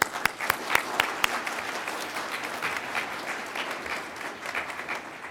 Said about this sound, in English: They all deserve a round of applause.